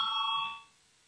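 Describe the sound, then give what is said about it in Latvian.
A single short ring of a parliamentary voting bell calling a vote on a proposal, bright and steady for about half a second before cutting off and fading into quiet, with no one speaking. “Lūdzu, zvanu balsosim par pirmo juridiskā biroja iesniegto priekšlikumu.”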